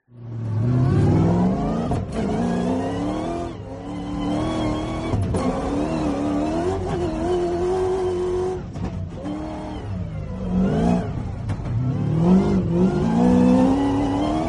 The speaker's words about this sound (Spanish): No es nada híbrido, es un V8. Suena como deben sonar los coches de competición.